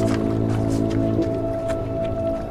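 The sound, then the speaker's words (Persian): Oars dip and swish through water as a rowboat is paddled on a lake, in a loose, repeating rhythm of soft splashes over a steady, sustained droning tone. “نوری تو قایق داره پارو میزنه.”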